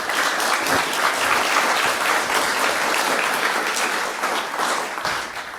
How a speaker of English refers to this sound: OK, first of all, thank you. Warm round of applause. Thank you.